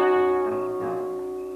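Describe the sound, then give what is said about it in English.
A car engine runs with a steady, droning hum and a strong tonal whine, holding a fairly even pitch and fading slightly over a brief moment, with no voices. “Oh, man, she really is a gasser, huh? Look at her cut out.”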